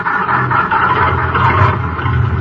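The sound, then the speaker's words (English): A taxi cab engine starts and rumbles steadily and loudly, a constant droning hum with a gritty rasp, as the cab drives off, with no voices. “Fish those keys out of your pocket and get this bucket of bolts going.”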